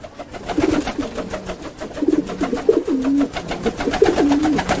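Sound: pigeon cooing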